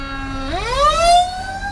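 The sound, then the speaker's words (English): A fire truck siren wails on its own, holding a low steady tone before sweeping smoothly upward to a higher, louder pitch. “And hold on, there's a fire truck.”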